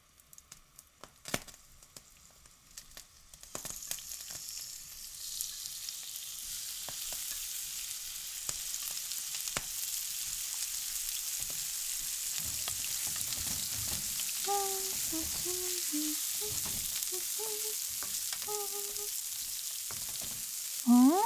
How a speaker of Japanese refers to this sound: 何作ってるのかって？鶏胸肉のナッツ炒め。普通は鶏もも肉を使うんだけど、鶏胸肉の方が低脂質で高タンパクなの。